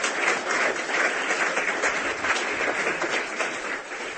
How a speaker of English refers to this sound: So a round of applause for our judges, please.